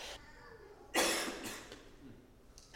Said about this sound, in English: I got to cough again.